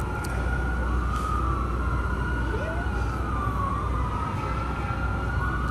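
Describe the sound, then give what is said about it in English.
A fire truck siren wails steadily over heavy low engine rumble, its tone sweeping and wavering, loud throughout, with no one speaking. “And then the fire trucks arrive.”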